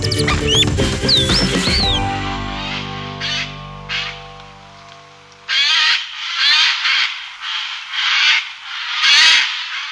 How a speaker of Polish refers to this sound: Właśnie, te ptaki, które łatwo teraz usłyszeć, a nawet zobaczyć, to są właśnie sójki.